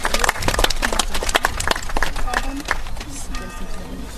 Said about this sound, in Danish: Skal vi sende vores sidste duer op? Ej, det gør vi så. Og så klapper vi af den, når den er kommet op, ikke også? Ja, det gør vi. Alle klapper.